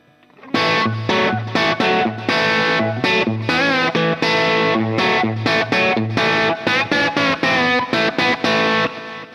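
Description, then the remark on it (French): A loud electric guitar riff on the treble pickup, played through a Blues Driver overdrive pedal, in short, rhythmic chopped phrases with a gritty, distorted tone, sustained notes ringing between stabs, no voices present. “J'enclenche la blues driver, c'est ça.”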